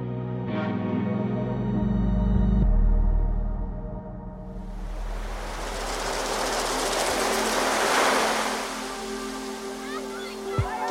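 A steady tonal hum gives way to a broad rushing wash that swells and recedes, like an ocean wave breaking on the shore, fairly loud, with no talking.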